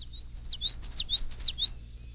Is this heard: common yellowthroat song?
yes